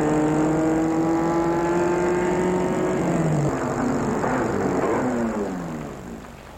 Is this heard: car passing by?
yes